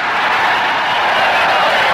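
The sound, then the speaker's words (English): A crowd of 25,000 extras cheers in a loud, steady roar of many voices blended into dense, hissy noise, holding evenly for about two seconds with no single voice standing out. “Okay, 25,000 cheering extras.”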